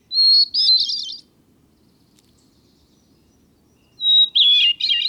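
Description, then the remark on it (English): A small brown mountain songbird sings two clear, fluting phrases, each opening on a pure whistled note and breaking into a quick warble, separated by a few seconds of quiet, with no talking. “You can listen again to this small brown bird, and many others, when you come to our website”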